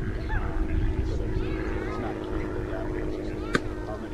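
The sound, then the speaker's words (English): A small twin-engine plane flies over a baseball game on a beautiful day, its low humming buzz holding level throughout, with faint voices murmuring beneath it and a brief sharp click near the end. “Got a fly over here from someone. Saying, hey, it's a beautiful day to be up and about. Little twin engine.”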